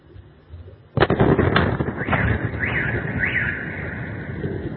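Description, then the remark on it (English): After a quiet moment, a missile flies over and its explosion, from a Ukrainian strike on a military base inside Russia, booms suddenly and rolls into a long, crackling rumble, while car alarms start wailing and warbling in the aftermath. No one speaks. “Missile flies over. You see the explosion, and then seconds later, the sound comes back. Boom.”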